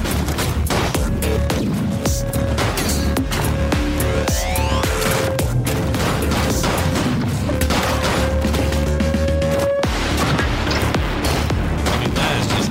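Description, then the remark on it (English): Loud, nonstop video game action with a driving soundtrack: sustained musical tones under dense, rapid bursts of gunfire and explosions, holding steady volume throughout with no one talking. “This is just some gameplay and the music that goes with it.”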